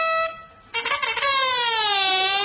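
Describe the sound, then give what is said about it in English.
A loud, sustained harmonic alarm tone blares for about two seconds, wavering briefly in the middle before settling into a steady drone whose pitch sags slightly toward the end. “Enemy are approaching, sir. What? Sound alarm.”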